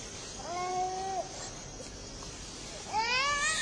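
baby crying

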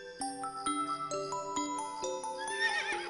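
horse neighing

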